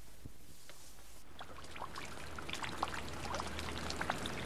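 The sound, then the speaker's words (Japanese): Soft, steady rain hisses gently at a graveside, with scattered individual drops tapping. It is quiet and continuous, with no voices. “静かな、静かな雨の中、今私は一つのお墓の前に立っている。”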